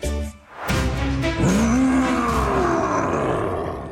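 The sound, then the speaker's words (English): A loud, sustained roar of a scary monster from a nightmare in an IKEA mattress advertisement, with a rising then slowly falling growl, layered with rough, gritty noise and a faint high whine, lasting a few seconds with no talking. “Hello, scary monster from my nightmares.”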